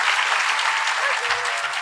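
A large audience at the Greenbelt Festival claps steadily at the end of a talk, a dense, sustained wash of applause that stays loud and even throughout without any voices standing out.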